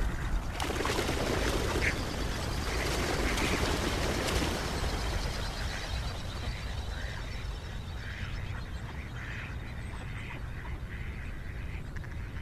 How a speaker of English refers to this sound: The water is almost glass calm. And to our left, some ducks take flight.